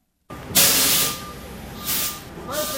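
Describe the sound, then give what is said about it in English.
A semi-truck backs into the loading dock of the Saddleback Church food pantry with four dozen pallets of breakfast cereals, with loud bursts of air-brake hiss, three separate blasts, over a steady high-pitched tone and low engine rumble. “A semi-truck is backing into their loading dock with four dozen pallets of breakfast cereals.”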